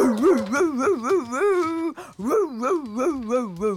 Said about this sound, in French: Le chien aboie de toutes ses forces en direction de la rue.